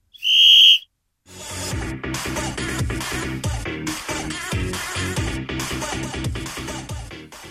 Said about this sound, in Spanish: Y ahora sí, colegiado, haga sonar el silbato.